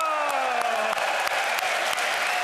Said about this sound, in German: Ein tosender Applaus. Spät, und, aber immerhin.